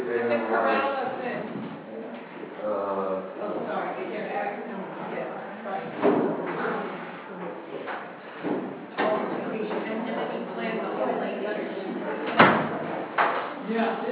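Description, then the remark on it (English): Classroom doors are pushed shut at the start of a morning class, giving a few scattered thuds and knocks over a steady murmur of people talking, with one sharper bang near the end. “So, let's shut these doors.”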